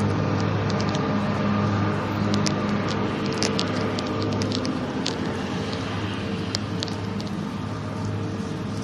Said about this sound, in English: Trying to yell over the roar of the mower. I'm not sure how much of that picks up.